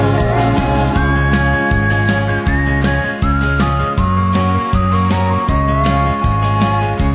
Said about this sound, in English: But the sweetest sound of all is in my memory, I guess. Grandma whistling, what a friend we have in Jesus.